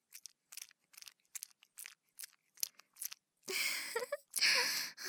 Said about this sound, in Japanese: このままずっとクチュクチュしていたらどうなるのか。聞こえますか、この音？ほら。